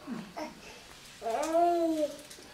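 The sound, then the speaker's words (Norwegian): Young children babble softly in the background: a couple of short chirpy sounds, then a longer sing-song, wavering vocal note, fairly faint. “Du hører hva ungene sier.”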